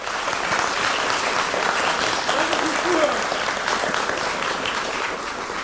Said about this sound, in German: Vielen Dank. Nochmal Applaus.